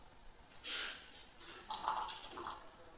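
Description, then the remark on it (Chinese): Dice rattle and clatter in two short bursts, a brief shake followed by a longer tumbling roll of quick clicks, fairly faint and with no voices, in a game of betting on big or small; the roll comes up 4. “叮咚叮咚，开始摇骰子。”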